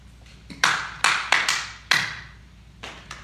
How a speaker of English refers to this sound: We want the resolution. That's what we want. But this morning, we're not getting the last two claps.